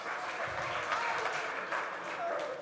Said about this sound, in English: So a round of applause for our helpers, please. Thank you very much.